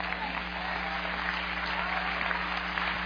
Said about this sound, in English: If you understand what I say, just clap your hand. Praise God.